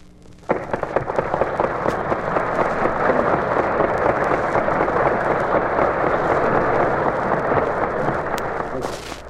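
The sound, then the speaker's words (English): A large crowd of United Nations delegates at the General Assembly in Flushing Meadows, New York, rises in applause after the speech of the President of the United States; the applause starts abruptly and holds as a dense, steady roar of clapping for several seconds, loud and unbroken, with no voices over it. “The delegates of the United Nations are rising in applause after the speech of the President of the United States.”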